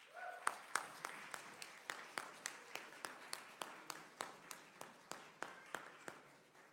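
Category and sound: crowd, audience applause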